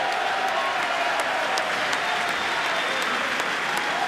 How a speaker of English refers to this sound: That getting a cheer now from Republicans in the chamber.